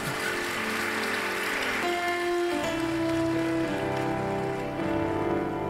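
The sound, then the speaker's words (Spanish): An audience applauds a speaker steadily, a dense, continuous wash of many hands clapping that holds at an even loudness for several seconds, with faint sustained tones humming underneath. “Bueno, si van a aplaudir, les voy a dar oportunidad de que lo hagan.”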